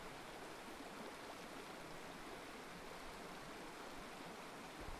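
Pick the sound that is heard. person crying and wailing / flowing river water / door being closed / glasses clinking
flowing river water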